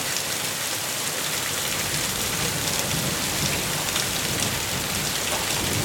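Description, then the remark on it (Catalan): Heavy rain pours steadily, a dense, even hiss with no pauses, while a low thunder rumble rolls underneath. No voices are heard. “No, el tro és la veu del porc sagrat.”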